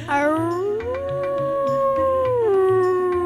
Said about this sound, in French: En se baladant à l'orée du bois, Mûre entend de loin hurler Haroun, son frère loup.